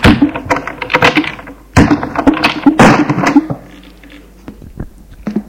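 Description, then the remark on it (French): A man pushes a door shut with a couple of solid thumps and rattling clatter against a low hum, followed by a few faint, scattered clicks as things settle. “Il referme la porte.”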